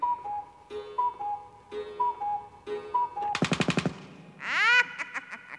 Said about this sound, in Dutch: Want slaat de klok 5 uur.